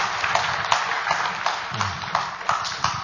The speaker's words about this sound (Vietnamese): Vâng, chúng ta tạ ơn Chúa một tràng pháo tay. Cảm ơn bác sĩ.